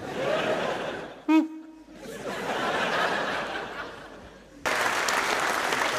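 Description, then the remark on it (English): An audience claps steadily, a dense patter of many hands that briefly dips after a short whoop, then swells louder again toward the end. “You clapping, are you sort of do that, clapping?”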